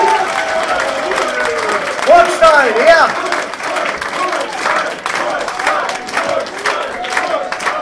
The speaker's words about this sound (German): Nein, liebe Leute, der erste Platz dieses Jahres, auch diesen Namen haben wir heute schon öfters gehört, geht an das Gaudium zur Burg in Burgstall. Applaus.